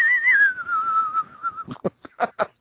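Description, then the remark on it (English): A person whistles a slow, wavering, eerie tune, the pitch sliding downward for about a second and a half, followed by a few short bursts of voice. “Do the whistle.”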